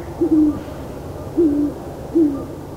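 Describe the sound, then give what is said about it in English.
A male and female pair of great horned owls hoot back and forth among aspens and oaks in a quiet, secluded place under a moonless sky: three low, smooth hoots spaced about a second apart, clear over a faint background hush, with no voices. “But now, among aspens and oaks, in this quiet and secluded place, and with the safety of a moonless sky, this time the female replies, and the owls talk, back and forth, her voice thin, his low and smooth as butterscotch and rum.”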